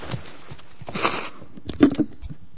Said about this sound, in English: And I just need to blow my nose as well.